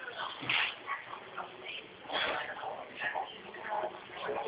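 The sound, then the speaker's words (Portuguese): A small dog yips and whimpers in a string of short, high bursts, heard through a muffled, narrow phone-line sound at moderate loudness for a few seconds. “Não é o cachorrinho, tá?”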